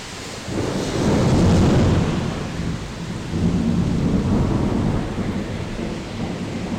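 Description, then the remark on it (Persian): A thunderstorm with steady, heavy rain hiss and deep rumbling thunder rolling in two long swells, loud, with no voices present, on Sunday 8 April 2012 around 6:30 pm after several sunny spring days. “بعد از چند روز آفتابی بودن و هوای کاملا بهاری، بالاخره یک بارونی زده و رعد و برق های وحشتناکی داره میزنه.”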